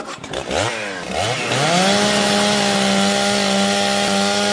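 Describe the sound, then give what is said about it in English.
A chainsaw used to chop down a beanstalk sputters and revs up, its pitch sweeping upward before settling into a loud, steady buzzing drone that holds for several seconds. No voices. “Right, I'll chop it down, Mother.”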